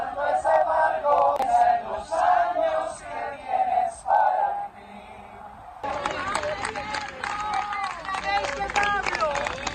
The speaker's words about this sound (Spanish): Pero mira lo que hemos encontrado también nosotros. Cómo la gente gritaba esto en su funeral.